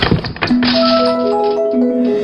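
A grandfather's favourite radio is dropped onto a living-room floor by a running child with a couple of quick thuds, then keeps sounding with a steady hiss of static and several overlapping electronic tones humming on at a constant, fairly loud level.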